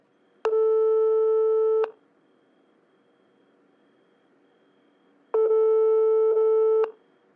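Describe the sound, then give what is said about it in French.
A telephone line tone sounds twice before the answering machine of Cinépause, a festival radio, picks up: two steady, buzzy mid-pitched beeps, each lasting about a second and a half, separated by a long pause of faint hiss, with no voices. “Et tout de suite, le répondeur du festival.”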